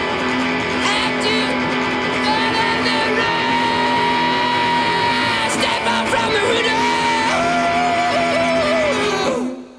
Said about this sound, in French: Big whistle sound, listen to the big whistle sound, listen to the big whistle if you don't want to, if you don't want to.